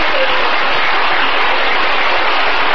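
A steady wash of canned applause, dense and even with no individual claps standing out, holding at a loud constant level for a few seconds with no voices.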